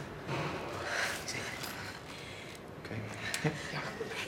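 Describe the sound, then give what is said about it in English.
Ragged, gasping breaths of a girl, a series of noisy inhales and exhales that gradually ease toward steadier, calmer breathing after a needle is inserted into her chest, with no talking. “allowing her breathing to return to normal.”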